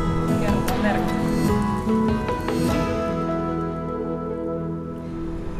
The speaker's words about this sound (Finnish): Mä lähden tästä nyt sinne ja sopivasti alkoikin just sataa, eli katsotaan mikä on fiilis siellä.